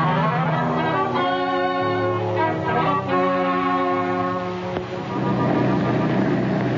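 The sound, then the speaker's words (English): A steady, loud engine drone of an airplane in flight to Chicago runs throughout, a constant humming roar with tonal overtones and no breaks, filling the whole stretch. “Do you like to fly, Mr. Holliday? Oh, I love it, do you?”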